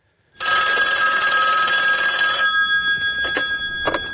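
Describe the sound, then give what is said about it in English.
A telephone rings loudly, one sustained metallic bell trill lasting about two seconds, then ringing on softly with a couple of faint clicks, in a film scene of a phone call between Anton Chigurh and Josh Brolin's character. No one speaks. “And here's a scene. It's over the phone.”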